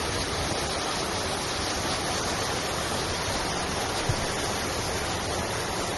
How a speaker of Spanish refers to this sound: Es el sonido del agua del torrente Desmercadal.